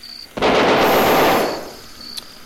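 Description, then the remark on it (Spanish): A loud burst of gunfire, several shots fired in quick succession that blur into one sustained blast lasting about a second before fading, with no voices. “Pero un balazo era suficiente, jefe. Yo no soy de un solo balazo”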